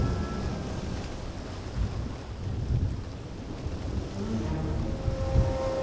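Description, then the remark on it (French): Rough sea surf churns continuously with strong wind roaring over it, a dense low rumbling wash with gusting swells and no voices. “La mer est en colère. Elle hurle, elle écume. Le vent gémit, rugit.”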